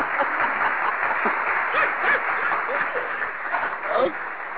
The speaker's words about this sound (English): Hold on, let me take your applause off. Oh, you keep that one.